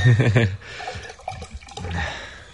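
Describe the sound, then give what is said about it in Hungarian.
New wine pours steadily into a glass, a soft splashing gurgle lasting a couple of seconds, with a brief burst of voice just before it starts. “Gondolom nem sértjük meg vele ezt a murcit, ha egyszer edényből”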